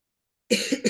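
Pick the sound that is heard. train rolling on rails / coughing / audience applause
coughing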